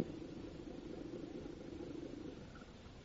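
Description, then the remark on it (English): A car engine hums with a low, steady rumble that holds evenly for a few seconds, then eases off slightly at the end as the car comes to a stop in front of a doctor's home; no voices are heard. “was almost half an hour later when Mike Axford stopped his car in front of Dr. Oten's home.”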